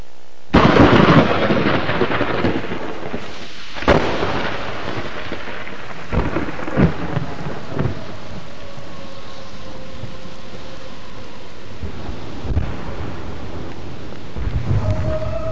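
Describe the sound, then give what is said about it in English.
Steady, heavy rain hisses throughout while deep thunder rumbles and cracks several times, with a loud boom near the start and fainter rolling peals later. “And then, ladies and gentlemen, it rains for 3 days.”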